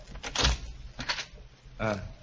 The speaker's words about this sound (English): Now, let's try the door. It's not locked.